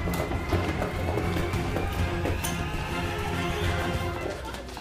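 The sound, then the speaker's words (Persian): Footsteps approaching in a steady, repeated rhythm, partly buried in a dense, constant background wash. No one speaks. “صدای پا میاد. یه نفر داره میاد اینجا.”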